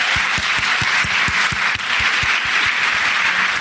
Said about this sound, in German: Ein kleiner Applaus! Mikro, ein Applaus!